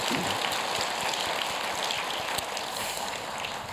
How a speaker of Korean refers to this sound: 모든 분들에게 또 하나님께 감사의 박수를 드리겠습니다.